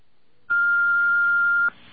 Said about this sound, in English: Please give your name and phone number for a prompt reply. Thank you. Please wait for the beep.